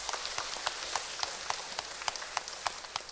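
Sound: audience applause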